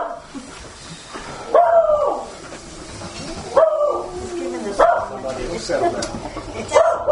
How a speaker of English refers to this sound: Hopefully the dogs have settled down. Oh no, here goes the... Oh boy.